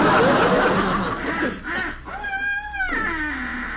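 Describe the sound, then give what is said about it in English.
A person imitates wild geese with a few loud, nasal honking calls, one drawn-out honk in the middle, over a noisy, breathy background. “That was geese. Can you keep it quiet, Bud? Wild geese.”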